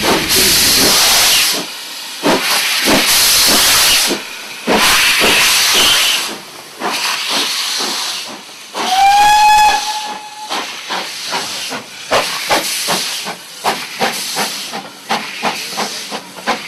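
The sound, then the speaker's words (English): Steam locomotive 80105, in its last days in steam before withdrawal from traffic in September 2010, vents loud bursts of hissing steam, then gives a single clear whistle blast lasting about a second, followed by rapid chuffing exhaust beats. “This entire item is given over to the last days that 80105 was in steam before being drawn from traffic in September 2010.”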